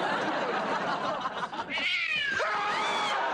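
A cat, Mr. Whiskers, lets out loud, drawn-out yowls and screeches, rising and wavering in pitch, after its tail is stepped on, against a noisy background with no talking.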